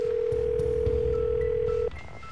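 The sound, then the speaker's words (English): A steady, unbroken telephone tone hums for almost two seconds and then cuts off, followed by a few faint, short beeps over a low background rumble, as a call is placed to a brother in Michigan. No one speaks. “Come on, Eddie, answer the phone!”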